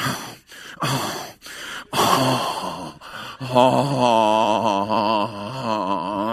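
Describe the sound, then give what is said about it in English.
A voice mimics exaggerated gasping, imitating a breathing disorder that comes on while waiting: several sharp, breathy inhalations in quick succession, then a long, strained, wavering wheeze-moan, loud, with no words. “And I start getting a breathing disorder.”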